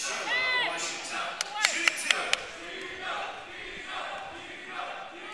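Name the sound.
basketball crowd cheering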